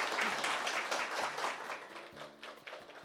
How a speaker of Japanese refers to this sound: 拍手をお送りください。